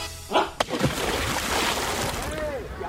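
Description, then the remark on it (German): A sudden splash as a child jumps from the edge into a pool, followed by steady churning and sloshing of water, with faint voices in the background. “Achtung da vorne, nicht vom Beckenrand springen.”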